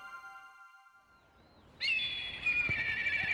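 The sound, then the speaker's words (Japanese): A crow's cry rings out loud on a rooftop: a steady tonal call, then a sudden harsh, drawn-out shriek that carries on for over a second, with no talking. “カラスはのんきでいいぜ。”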